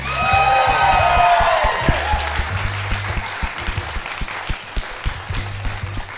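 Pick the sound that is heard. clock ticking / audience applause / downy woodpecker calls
audience applause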